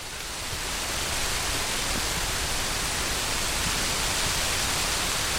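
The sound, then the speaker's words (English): Heavy rain pours down amid sunshine in the Queen's Park beside Arthur's Seat in Edinburgh, Scotland, in a steady, dense hiss that fills the whole range, swelling slightly in the first second and then holding loud and unbroken with no voices. “And in the middle of the sunshine in Edinburgh, here comes a lot of rain.”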